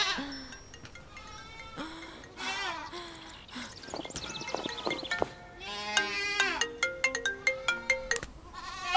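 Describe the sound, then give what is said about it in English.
Several goats bleat in wavering, overlapping cries, loud, while a bright electronic ringtone melody chimes in rapid repeated notes toward the end. “More stupid goats.”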